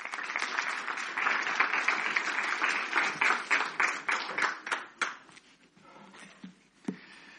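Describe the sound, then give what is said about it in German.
Audience applause welcoming a guest pastor at an event in Limburg, a dense wash of many hands clapping that gradually thins into scattered individual claps before dying away, with a few last claps near the end. “Dein Applaus.”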